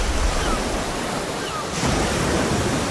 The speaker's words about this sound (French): Et si la planète était recouverte d'océans, le va-et-vient martien inciterait beaucoup moins à la baignade que les vagues de la côte atlantique.